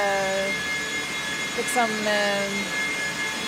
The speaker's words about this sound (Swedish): Det är ett ständigt arbetande system som för bort värmen från servrarna och tillför kyla. Och man blir lite knäpp när man har lyssnat för länge på det här ljudet, tror jag. Servrarnas egna fläktar, det är de som låter.